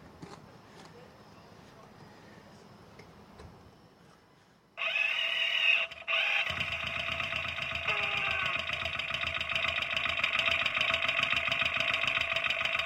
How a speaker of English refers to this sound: I want to hear what it sounds like through the exhaust. I wonder what it sounds like inside the muffler. when I run this, it's probably going to be pretty loud. Okay, I'm taped up the mic. I'm going to turn the gas on.